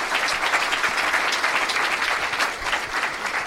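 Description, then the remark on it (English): A crowd applauds first-time guest Josh Wolf steadily for about three and a half seconds, a dense, even wash of clapping hands with no voices standing out. “And let's hear it for first-time guest Josh Wolf, everybody.”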